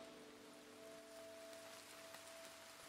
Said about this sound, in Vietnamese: Trời vẫn tiếp tục mưa rất là to. Hy vọng là mọi người có thể nghe rõ những dòng chia sẻ của mình.